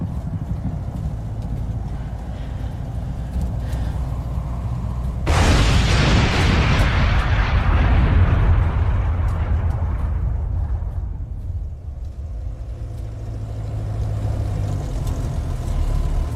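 A low engine drone rumbles steadily, then a plane crashes with a sudden loud explosion that roars for several seconds before fading back into a deep, continuous rumble.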